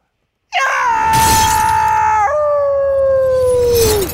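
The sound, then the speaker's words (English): A husky howl rings out loud, one long sustained note that steps down in pitch midway and then slides lower as it fades, with no talking. “Because of the Washington Husky dogs.”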